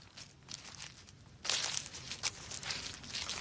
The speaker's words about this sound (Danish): Man bliver lidt trist af at vandre i de her. Jeg ved ikke, om man kan høre det. Måske hvis jeg tager mikrofonen lidt tættere på de her knasende blade.